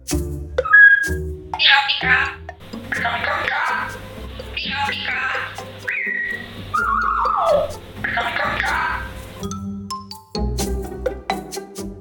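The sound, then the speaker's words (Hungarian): A female parrot named Pika gives a string of loud, varied calls: sharp whistles, a falling squawk and harsh screeches, broken by short pauses, with low speech-like sounds in between. “Itt közben még beszélgettünk, megszólalt ő is, akit hogy hívnak? Ő Pika.”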